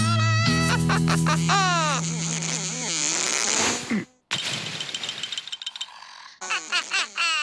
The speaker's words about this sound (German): Fliege, aber du störst doch die Spinnen mit deinem lauten Gesumse.